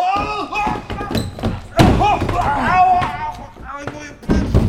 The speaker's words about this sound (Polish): On sam przeleciał przez korytarz, przebił się przez drugie drzwi i sturlał po schodach prowadzących prosto do piwniczki.